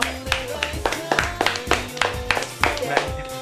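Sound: clapping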